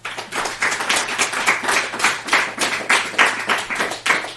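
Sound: audience applause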